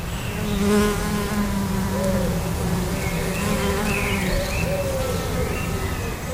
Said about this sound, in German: Das sind Mauerbienen hier, die machen das, verkitten das mit Erde. Ich kenne ganz tolle Wildbienenhotels, die, wenn man nicht wüsste, dass sie nicht stechen können, würde man sich nicht rantrauen, so summt und brummt es.